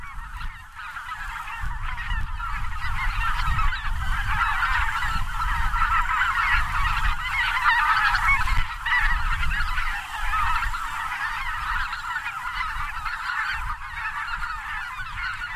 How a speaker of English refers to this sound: Geese often fly with the wind. In the following recording, you'll hear greater white-fronted geese overhead with a lot of wind.